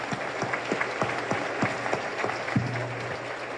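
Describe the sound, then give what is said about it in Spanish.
A crowd applauds steadily, many hands clapping in a dense, continuous wash at moderate volume, with a few sharper individual claps standing out. “Entonces, el aplauso hoy es para todos ustedes.”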